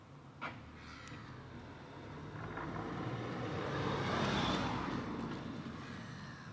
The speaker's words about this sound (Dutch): De meeuwen hier boven jouw ouderlijk huis aan het krijzen zijn.